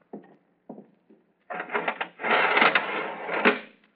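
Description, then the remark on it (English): A few short metallic clicks, then a loud, sustained clattering rattle as an iron window shutter is lowered, rising to a final clank before it stops. No voices. “First of all, if you'll be good enough to go inside and lower the iron shutter.”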